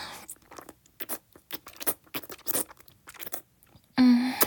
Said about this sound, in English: A drool-filled slurp.